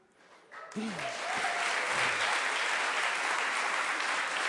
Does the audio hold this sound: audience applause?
yes